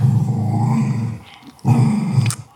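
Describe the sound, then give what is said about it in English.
A dog lying down growls low and steadily over her chew toy as other dogs try to take it, a rumbling snarl that breaks off briefly and then resumes just as loud, with no one speaking. “So she's laying there growling like a bear”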